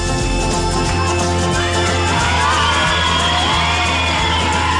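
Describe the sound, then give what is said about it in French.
A crowd at a France Bleu radio show applauds and cheers loudly for about five seconds, a dense, continuous wash of clapping with whoops and yells rising through it, growing fuller toward the end. “voilà, sous vos applaudissements, merci infiniment.”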